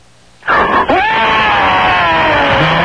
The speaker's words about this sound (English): Can you give us a high-pitched scream?